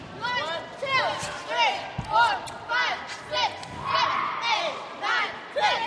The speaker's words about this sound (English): the girls in Concord are warming up for their last game of the regular season.